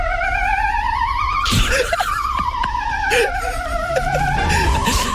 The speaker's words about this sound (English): Let's compare it now to Belgium's ambulance sound.